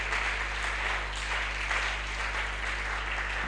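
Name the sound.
audience clapping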